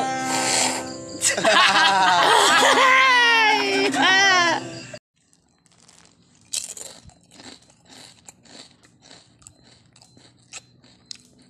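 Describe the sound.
A loud, high wailing voice gives way to a run of crisp crunching bites and chewing on a crunchy snack, repeating irregularly for several seconds.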